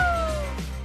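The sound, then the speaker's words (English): A single cat meow, a clear tonal cry that slides steadily downward in pitch over about half a second, heard over a low steady hum with no talking. “That is the sound of a happy Cyrus Simcoe”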